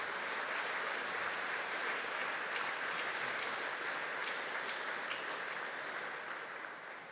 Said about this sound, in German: Ich denke, das ist einen großen Applaus wert.